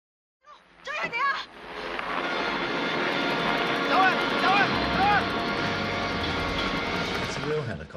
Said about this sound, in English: That's a real helicopter, and that's a real jump. Is that a real Jackie, though? That is a real Jackie. When Jackie is running and he jumps onto the helicopter, in the behind the scenes, you can see that he's got a safety wire on.